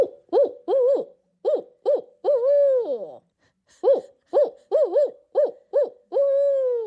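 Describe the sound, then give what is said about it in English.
A person imitates a barred owl's call: two rhythmic series of clear, loud hoots, each phrase ending in a long, drawn-out, downward-sliding hoo with no other sounds. “I have worked on my barred owl over the years. I can give you a hoot if you'd like.”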